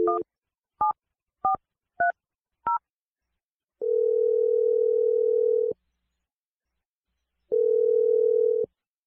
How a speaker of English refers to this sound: I'm going to dial Lexi's phone number. We're going to try to get your second date update.